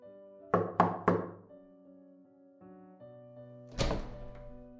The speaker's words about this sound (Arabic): خلوني اقف مع واحد منهم في اخر الطرقة وزميله راح يخبط على باب الشقة.